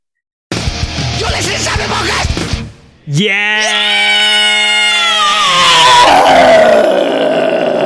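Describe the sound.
Someone vocally imitates a thrash metal scream: a harsh, raspy roar for about two seconds, a brief break, then a long, piercing high shriek that climbs and holds, loud.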